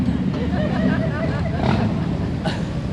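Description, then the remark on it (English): Motorcycles heading to a motorcycle show rumble past outside, a steady, loud low engine drone filling the whole stretch, with voices talking over the noise. “They're going to the motorcycle show.”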